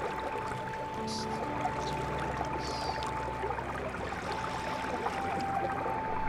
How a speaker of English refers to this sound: Hear the sounds. Hear the sound of the waterfall as it pours down into the river.